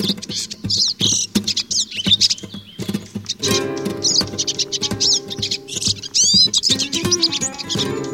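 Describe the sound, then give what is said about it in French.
A European goldfinch sings, a bright, continuous stream of rapid twitters, chirps and trills with no pauses, over a steady low hum in the background. “Et c'est un oiseau qui est réputé pour son chant, particulièrement la sous-espèce qui s'appelle Cardulis parva, le chardonneret qui se trouve au Maghreb, et en Espagne, Portugal, la zone géographique, voilà, plus au contour méditerranéen.”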